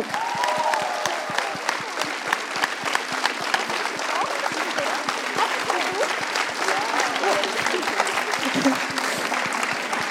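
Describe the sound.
A crowd claps steadily throughout for the winner of the HTWK Buchmesse slam, a dense rapid patter of many hands at an even loudness, with scattered voices and a few cheers mixed in.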